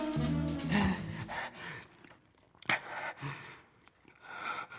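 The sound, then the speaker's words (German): A man, a neighbour, breathes heavily, a series of loud, ragged inhales and exhales with gasping, sighing edges, uneven in rhythm and with no talking. “Er atmet schwer, weil Sie jung und gut aussehend sind.”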